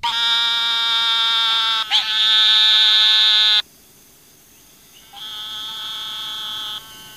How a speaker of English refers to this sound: The eastern narrow-mouthed toad's call sounds like a buzzy nasal wah, or the sound of a sheep lasting from 1 to several seconds.